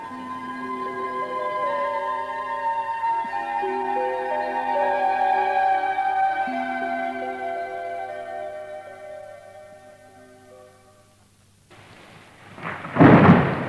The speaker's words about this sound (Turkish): Yağmur da bayağı hızlandı.